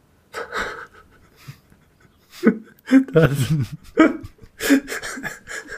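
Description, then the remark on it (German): A loud, throaty burp rumbles out in the middle, surrounded by short breathy vocal noises and gasps from people. “Da hat dein Rülpser einen schlechten Wortwitz.”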